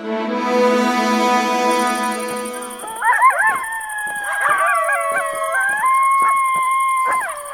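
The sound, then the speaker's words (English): After a steady droning tone fades, a pack of coyotes breaks into howls, several wavering, gliding voices overlapping with sharp yips, fairly loud and continuous to the end. “Jeez, you guys sure do have a coyote problem out here, don't you?”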